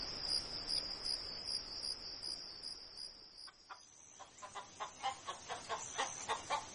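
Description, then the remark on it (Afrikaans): Steady cricket chirring fills the background of a farmyard, then a chicken starts a quick, regular run of clucks in the second half, rising over the insect drone. “Jy sê die enigste hoender op die werfie.”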